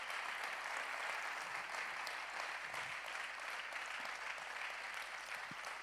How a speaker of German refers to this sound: Hey, Applaus für